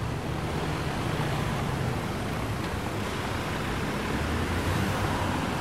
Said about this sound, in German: Noch heute ist diese Straßenkreuzung ein wichtiger Knotenpunkt mit viel Verkehr. Autos, Busse und Lastwagen stehen wie Perlen aneinandergereiht im Stau, kriechen im Schneckentempo voran. Ein Dauerrauschen wie in der Großstadt.